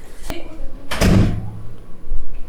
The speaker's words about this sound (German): Hey. Die Tür ist zu.